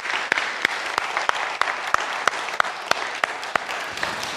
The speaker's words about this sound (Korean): 80명, 80교회 목사님들 서브하면서 사역을 잘 무사히 마치고 돌아왔습니다. 모든 영광을 우리 하나님께 돌려드립니다. 우리 한번 박수 한번 쳐드리겠어요?